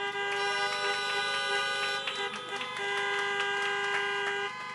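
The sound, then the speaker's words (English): Several car horns blare together in a long, overlapping chorus of steady honks, loud and sustained for nearly five seconds with a few pulsing taps mixed in, and no one speaking. The horns honk to cheer a speaker being introduced at a UK Healthcare nursing event. “Big honk for her.”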